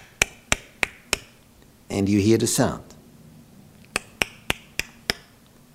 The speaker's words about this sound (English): You see a hand, and you see the hammer, and you see someone working.